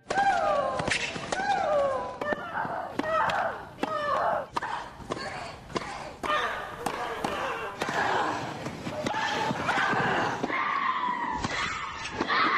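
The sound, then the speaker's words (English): A women's tennis rally of sharp, repeated racket-on-ball thwacks, many strokes met by a player's loud, drawn-out grunting shriek that slides downward in pitch, steady and insistent throughout. “The complaints about grunting in women's tennis have gotten louder in direct proportion to the volume of the grunts.”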